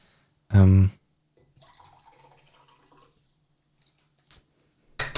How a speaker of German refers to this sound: So, hat man es gehört, wie ich Wasser eingeschenkt habe? Ich glaube nicht, oder? Ich hoffe nicht, das müssen wir sonst rausschneiden.